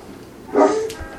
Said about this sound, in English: That's Snoopy, our guardian dog. She's barking, a raccoon, probably.